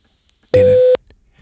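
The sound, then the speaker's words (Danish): A single loud, steady electronic beep lasting under half a second, the flat tone of a voicemail prompt after phoning a board chairman, followed by faint low rustling and background noise. “Læg en besked efter tonen.”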